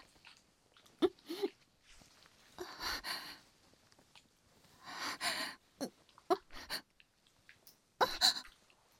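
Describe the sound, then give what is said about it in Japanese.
Close, wet licking of an ear and mouth sounds in short irregular bursts, with slurps and soft breaths, recorded intimately near the ear with no talking. “あ、ちょ、何してるの？耳舐めちゃダメ。”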